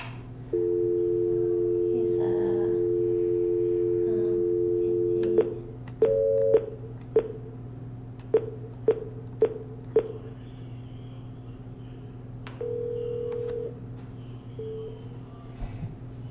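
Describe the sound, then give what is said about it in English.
A steady telephone dial tone hums for several seconds, then a quick run of about a dozen keypad beeps, followed by a short ringing tone and a brief final beep, all clear, as someone dials a person to conference him into a meeting line. “All right, I'll dial him. Try him on a radio phone?”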